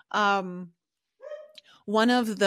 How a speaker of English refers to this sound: sorry, my dog's barking. What's your dog's name? Oh, Bowie, the cleaners have just arrived, so he just is protecting the home. He's doing his job.